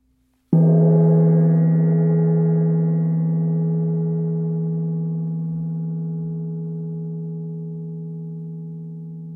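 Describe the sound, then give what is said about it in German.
Metal tube wind chimes are struck once, the tubes knocking against each other, and several ringing tones sound together, a low hum beneath brighter overtones, slowly fading over many seconds with no voices. “Wenn Wind die Rohre bewegt, schlagen sie aneinander und dann erklingen ihre unterschiedlichen Töne gleichzeitig.”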